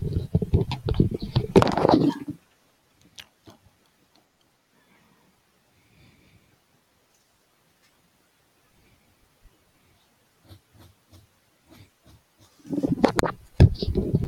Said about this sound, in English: I was just grabbing that paper that had my alterations on there. I was like, yay, my little cheat sheet.